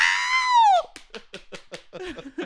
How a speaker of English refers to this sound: There's like an applause meter with like a number one hand. Yeah. Like, you better scream.